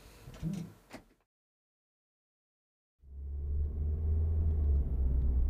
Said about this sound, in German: als Stacy und Will mit dem Auto über die nass geregnete Landstraße fuhren